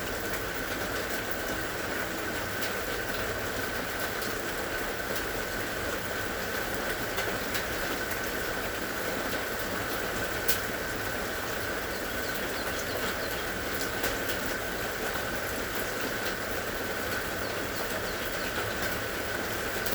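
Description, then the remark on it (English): Heavy rain pounds steadily on a roof high above, a dense, unbroken hiss and patter that stays loud and even throughout, with no voices or other sounds breaking through. “Can you feel a sense of expansion as you notice the distance between where you're sitting and the roof high above, where the rain is pounding down?”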